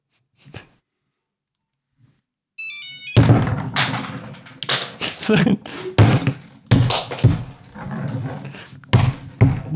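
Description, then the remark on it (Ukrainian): Nuts are cracked by whacking them with a Nokia phone: a short electronic beep, then a rapid, irregular run of loud, close thumps and sharp cracks that continues to the end. “Зараз ми зрозуміємо, горіхокол це чи ні. Нам потрібно горіхи та Nokia.”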